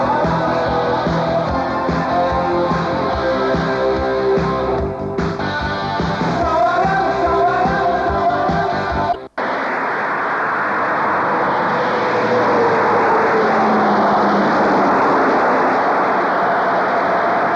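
A steady, fairly loud engine roar of a car driving around outside, preceded by a stretch of buzzing, droning tones that cut off abruptly. No one speaks.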